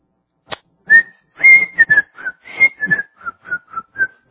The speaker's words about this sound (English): I can't whistle and preach at the same time.